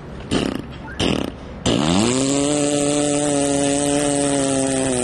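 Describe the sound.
A Newfoundlander vocally imitates a chainsaw: two short sputtering pull-start bursts, then a loud sustained buzzing drone as the imitated engine revs up and holds steady.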